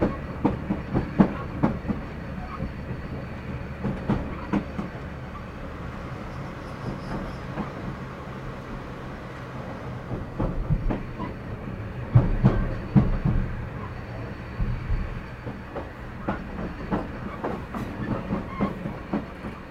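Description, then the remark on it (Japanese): A train passes through Inarimachi station without stopping, rolling steadily along the rails with a continuous low rumble and a rhythmic clickety-clack of wheels over track joints, growing louder and more pronounced in the second half. “稲荷町信号出ました。通過します。”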